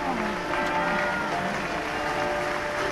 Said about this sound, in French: Des applaudissements pour Guy Bedos à la sortie de l'église Saint-Germain-des-Prés à Paris, au passage du cercueil de l'humoriste qui est décédé la semaine dernière.